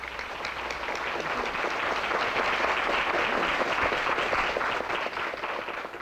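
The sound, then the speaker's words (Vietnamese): Sustained applause from a sizable audience for young people standing in the hallway, dense and steady throughout, many hands clapping at once with no voices standing out. “Xin quý vị một tràng pháo tay cho các bạn trẻ đang đứng ở ngoài hành lang kia.”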